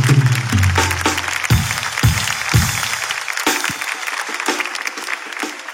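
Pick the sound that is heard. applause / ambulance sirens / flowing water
applause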